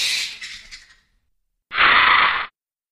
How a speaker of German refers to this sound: Kommt aus der Sound Ideas Lucasfilm SFX Library. Der Titel des Soundfiles ist Bats, Fruit, 8-Short, Squawks, Animal.